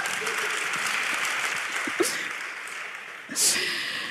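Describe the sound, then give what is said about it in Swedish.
Steady audience applause for the speaker's husband, an electronics engineer, fills the whole stretch, a dense crackle of many hands clapping at a fairly loud, even level, with a brief brighter swell near the end. “Applåd för det.”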